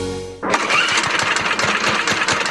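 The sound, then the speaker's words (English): A small lawnmower engine pulls to life and roars into a loud, steady, rattling run with rhythmic chugging pulses, with no voices. “Summer is tough on lawnmowers. The ethanol in our gasoline can gum up the fuel system, making them run rough, if you can even get them started.”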